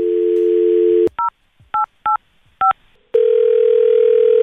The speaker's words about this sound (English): Got Monica's phone number, and let's call her right now.